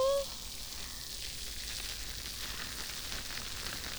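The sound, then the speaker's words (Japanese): The carbonated foam of a mint shampoo being lathered fizzes and pops right at the ear, a steady, soft crackling hiss of countless tiny bubbles bursting without a break, with no voice over it. “耳元で炭酸の泡が弾けてるの、わかりますか？”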